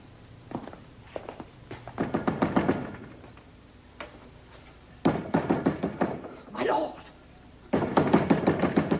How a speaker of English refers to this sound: My lord! Who knocks? One from the Lord Stanley.